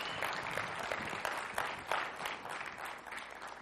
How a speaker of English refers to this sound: Amen. Clap for him.